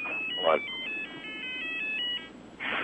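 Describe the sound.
A cell phone rings with a bright electronic melody of quick stepped tones repeating for about two seconds, fairly clear, with faint voice-like noise around it.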